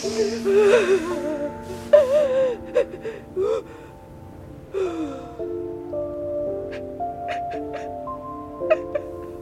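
Ragged gasping breaths of a woman who has been crying, uneven, with sharp intakes of air in bursts over a steady, quiet tonal background. No one speaks.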